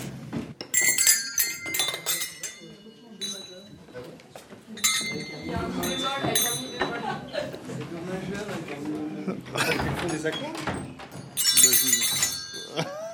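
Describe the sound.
Small bells ring and jingle in bright metallic bursts, clinking against each other in uneven clusters, with people talking close by underneath.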